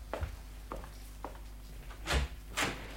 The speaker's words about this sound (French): Oh, Jean gèle et lui, il ouvre la porte à deux bâtons.